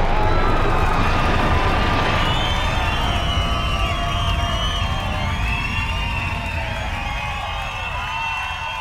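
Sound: crowd cheering and screaming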